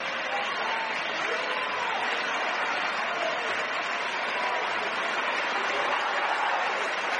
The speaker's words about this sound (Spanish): En el interior, eso sí, los monarcas y sus hijas han sido recibidos con una enorme ovación, casi 2 minutos ininterrumpidos de aplausos, donde se han escuchado varios vivas al rey y también a la princesa de Girona.